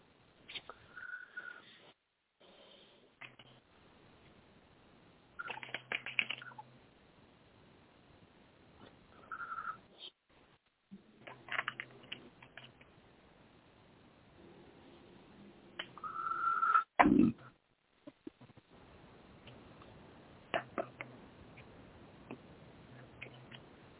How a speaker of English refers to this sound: Okay, one second. I'm going to shuffle and draw a card.